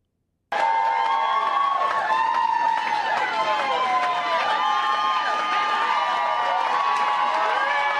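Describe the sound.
A large crowd at a political campaign speech breaks into sustained, loud applause and cheering after a brief silence, with many overlapping shouting voices holding steady for about seven and a half seconds.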